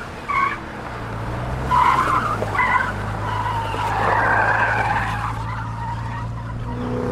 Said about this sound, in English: Mark drove crazily along the streets, dodging and weaving people, cars, and debris.